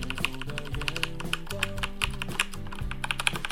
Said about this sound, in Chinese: 我们可以来听一下茶轴的这个声音啊，对，茶轴这个键盘是我目前经常用的一把主力键盘，其实啊，那说到这里大家可能能感觉到我个人比较偏爱的其实是茶轴的键盘。茶轴的声音是什么样子？